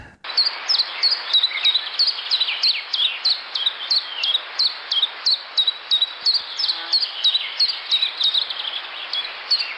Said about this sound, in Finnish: Petteri Lehikoinen, mikäs lintu tämä on? Tiltaltti.